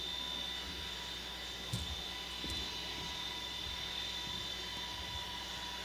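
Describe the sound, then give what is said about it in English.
A steady, loud airplane engine drone with a high whine from a simulated plane crash video, constant throughout, broken only by a couple of faint brief knocks. No one speaks. “So go ahead and kick that in where it says plane crash, and we're going to watch it.”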